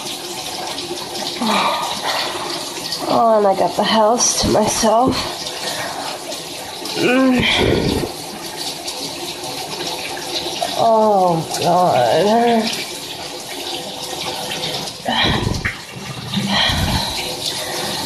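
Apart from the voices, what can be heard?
shower water running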